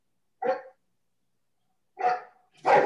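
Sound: dogs barking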